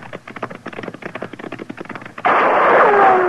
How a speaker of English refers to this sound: Hey, he's shooting at us.